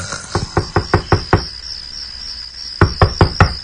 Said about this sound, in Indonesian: ada yang mengetuk pintu kamarku.